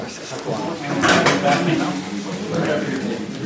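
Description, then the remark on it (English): Chairs scrape and clunk as they're shifted around to make room for more people, a steady jumble of wooden knocks and drags over about three seconds, with murmuring voices in the background. “We're definitely going to need more chairs”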